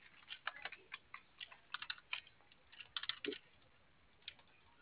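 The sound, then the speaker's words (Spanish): Someone taps out a code on a keypad: a quick, uneven run of soft button clicks with short pauses between bursts, and no one speaking. “A ver, si quieres, intenta el 8585 a ver si te cae por teclado.”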